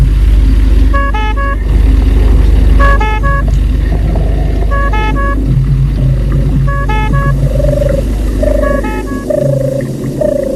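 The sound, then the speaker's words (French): A car engine rumbles steadily as the vehicle rolls slowly through an opened gate into a property, while short, bright chirping calls repeat every couple of seconds above it. No one speaks. “Il entre dans la voiture et la voiture entre dans la propriété.”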